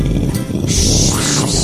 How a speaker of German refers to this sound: Wolkenbruch, das war Wolkenbruch. Ja. Das war der Donner, das war eher nur der Donner, da fehlte noch so ein bisschen blub, blub.